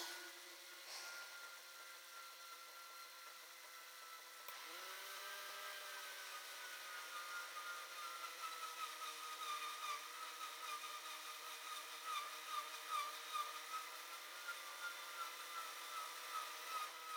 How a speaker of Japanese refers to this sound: 改造手術。ほら、あなたが欲しいのはこの音。ドリル、くるくるくるくる、キュイキュイ。